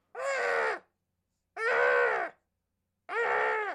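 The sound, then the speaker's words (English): A voice imitates a muffled baboon scream, three strained, harmonic cries of under a second each, repeated at a steady rhythm with short silences between them, fairly loud. “So instead of a heartbeat, there's a muted primate scream.”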